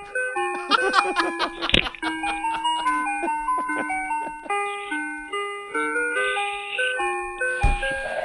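A tinkly ice cream truck melody plays on its own, bright chime-like notes stepping up and down in a bouncy, repeating tune at steady volume.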